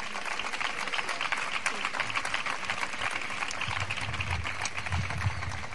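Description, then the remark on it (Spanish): A crowd in Huelva at the opening of the Colombinas breaks into a sustained ovation for the staff who opened the procession, dense rapid clapping that stays loud and steady throughout, with a low rumble of voices mixed in underneath. “Yo creo que es de agradecer, y esa fuerte ovación para todo el personal que está detrás nuestra y que han venido abriendo la comitiva para que Huelva huela y sepa a toro.”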